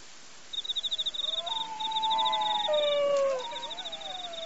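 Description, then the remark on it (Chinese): Long, wavering canine howls rise and fall over a few seconds in a forest, overlapping at times, while a steady high-pitched chirping pulses in the background like insects. “原来是你在叫啊，我还在想是谁在森林里呢。”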